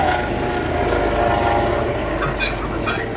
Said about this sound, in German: Jetzt nehmen wir einen Hubschrauber.